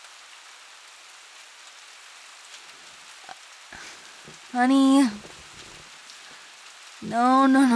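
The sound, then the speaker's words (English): Steady rain patters on a hard surface in a constant soft hiss, while a person's voice speaks out twice, briefly and fairly loudly, over the downpour. “When did it start raining?”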